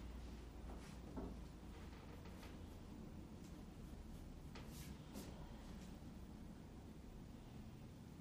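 A light door that looks massive but is made of plastic rather than wood is opened and shut as people go outside, giving a few soft clicks and thuds spread over several seconds against a steady, faint background hiss, with no one talking.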